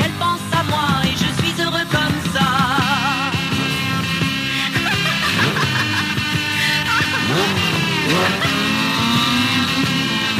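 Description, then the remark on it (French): A loud motorcycle engine revs repeatedly, its pitch surging and dropping in rough sweeps, then roars steadily as it pulls away. There is no talking. “qui s'en va sur sa moto”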